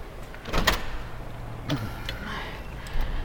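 A door at the end of a corridor is pushed open to go outside toward a parking lot, with a sharp latch clack, a second mechanical click a moment later, and a soft rush of air from outside.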